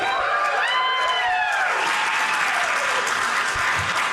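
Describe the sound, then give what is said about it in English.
Loud, sustained applause from a large audience fills the whole stretch, a dense wash of clapping with some cheering and whoops rising above it early on. “I earned every bit of that applause.”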